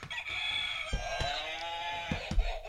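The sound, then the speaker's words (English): An official game show answer buzzer used in a trivia segment sounds off with a loud, sustained crowing rooster-like call, bright and strongly harmonic, broken by a few sharp clicks and thumps, with no one talking. “Now we actually have official answer buzzers.”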